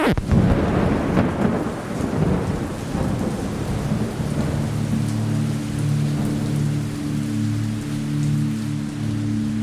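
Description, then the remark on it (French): A thunderstorm: a loud rumble of thunder rolls out at the start and fades into steady rain hissing, with a low, continuous rumbling drone underneath. No one speaks. “J'aimais bien faire l'amour avec ma copine pendant l'orage.”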